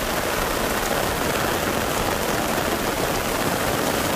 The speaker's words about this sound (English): It looks like it's absolutely lashing rain. You can, I don't know if you can actually hear this. Can you hear that? Very good. Let's play it again. It's only a short video, but it looks as though it's flooded in Castledermot and the rain.